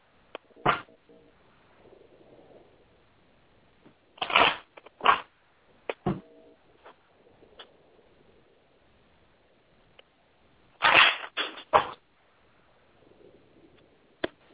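shuffling cards

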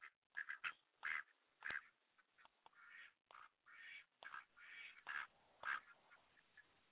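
ducks quacking

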